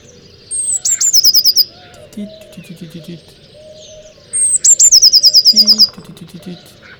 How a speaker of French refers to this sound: Et voici la mésange bleue. Son chant est à son image, plutôt nerveux. Il se reconnaît par la petite note suivie du titi-titi-titi.